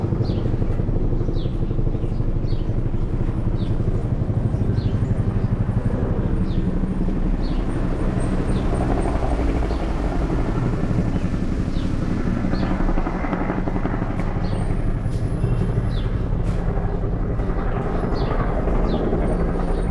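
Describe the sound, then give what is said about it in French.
A loud, continuous low rumble of NATO and UN helicopters flying low over Kabul, Afghanistan, steady and dense throughout, with faint higher chirps scattered above the engine drone. “Kaboul, il faut s'habituer au bel incessant des hélicoptères de l'OTAN et de l'ONU qui survolent la capitale à basse altitude”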